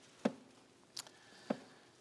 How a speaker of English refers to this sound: And as, I'll wait till y'all get there, I still hear some pages turning.